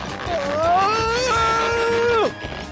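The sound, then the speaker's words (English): One loud, angry shout held for about two seconds, rising at the start and dropping sharply at the end, with no words in it. “Frustration boiled inside him, and he shouted in anger.”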